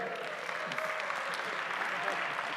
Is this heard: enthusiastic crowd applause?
yes